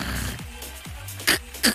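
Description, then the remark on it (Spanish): A voice imitates a choking snore: low, rasping, gurgling breaths that build to two sharp, louder snorting gasps near the end. “Deben haber algunas o algunos también que se ahogan por ahí con el ronquido.”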